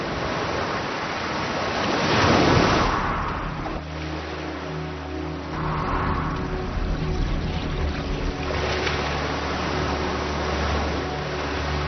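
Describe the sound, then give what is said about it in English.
Ocean waves pound a beach in heavy, hissing surges, with three big crashes rolling in one after another. A low, steady hum sits underneath from partway through. No one speaks. “Many will drown in the pounding waves.”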